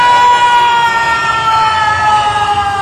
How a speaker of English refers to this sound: That was the sound of the lift's hydraulics.